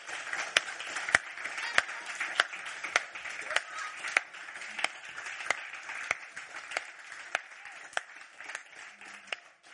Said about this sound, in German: Und ich möchte bitten, dass alle die, die da mitarbeiten, jetzt mal aufstehen. Und dass alle die, die sitzen bleiben, tanzen, klatschen und Bravo rufen. Steht mal auf, Kindermitarbeiter. Danke für euren Einsatz.